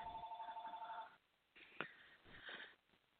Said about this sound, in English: And if we don't learn the lesson, sorry, you're going to get some, you might get a little phone noise there.